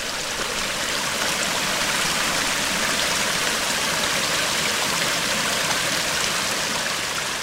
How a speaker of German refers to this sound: Der Fluss Rusenski-Lom südlich der Stadt Russe hat sich tief eingeschnitten in ein Kalksandsteinplateau und löcherige Felswände hinterlassen.